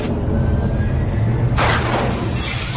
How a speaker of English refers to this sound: You have fired a missile from your plane.